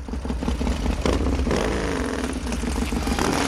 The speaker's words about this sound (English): A biker pulls up. He anchors his kickstand.